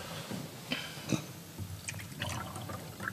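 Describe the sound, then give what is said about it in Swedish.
Water is poured into a glass, a soft uneven gurgle broken by a few brighter splashes and clinks. It sounds fairly quiet and carries on steadily for a few seconds, with no one speaking. “Ta lite mer vatten.”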